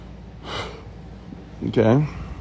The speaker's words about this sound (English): Ooh, I'm yawning over here.